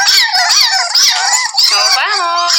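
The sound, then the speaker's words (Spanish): Several puppies, gathered by a doctor before leaving for an adoption fair, howl and yap together in a dense, continuous chorus of high, wavering cries, loud, with overlapping whines and short barks throughout. “Así reunía la doctora Cintia Torres a varios cachorros antes de partir a la más reciente feria de adopciones”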